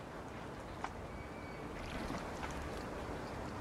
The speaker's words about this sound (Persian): قایق واسه من اومده.